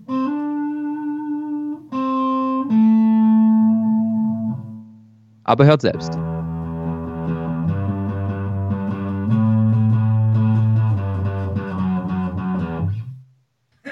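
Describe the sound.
Low, sustained notes on a distorted electric guitar: a few held tones, a brief pause, then a longer run of droning notes. A voice briefly speaks near the start.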